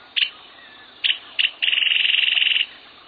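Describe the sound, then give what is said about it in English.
A small bird, a cisticola, gives three short, high, sharp notes, then breaks into a rapid buzzing trill lasting about a second. The call is clear against a faint background hiss. “And then there are the tinkling, trilling, rattling, whistling, chattering, bubbling, churring, and chirping cisticolas.”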